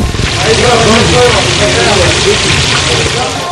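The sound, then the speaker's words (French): Food sizzles in hot frying oil in Istanbul at mealtime, a loud, continuous crackling hiss that fills the whole clip, with a low rumble and faint voices murmuring underneath. “Et on n'entend plus que friture.”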